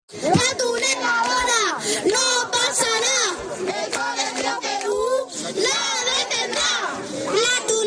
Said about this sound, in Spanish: Estos gritos son de vecinos del barrio de Carabanchel Bajo. Se van a quedar sin su pulmón verde durante el tiempo que duren las obras.